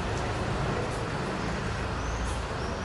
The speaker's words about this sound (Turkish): Ama yani yollar dolu. Yani bisikletler falan var bayağı. Arabalar var.